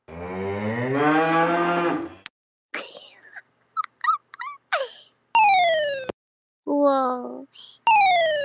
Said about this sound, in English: It is the cow!